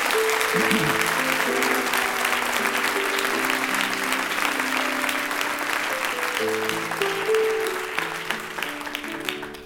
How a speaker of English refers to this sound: And you were about to clap for the choir, and I want you to do that now. Can you tell them what a great job they did?